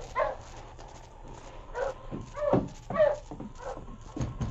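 sled dog barking

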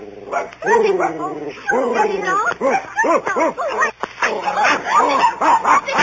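dog barking and yipping

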